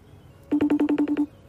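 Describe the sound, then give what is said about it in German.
A FaceTime call ringing tone plays alone: a quick run of about eight bright, evenly pulsed electronic beeps lasting under a second, clear. “Telefoniert ihr oft per FaceTime?”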